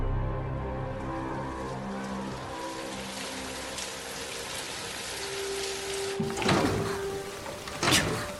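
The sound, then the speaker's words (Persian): Steady rain patters throughout, then a broken window frame is shoved and rattled twice as someone tries to force it shut, with scraping, creaking bursts near the end that fail to latch; rain is coming in through the broken frame. No one speaks. “بسته نمیشه، شکسته. بارون داره میاد تو قاب شکسته.”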